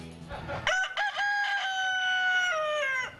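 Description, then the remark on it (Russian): A rooster crows once, a loud cock-a-doodle-doo that starts with short rising notes and then holds a long, strained call before trailing off. “Чуть свет, мы встаем с петухами.”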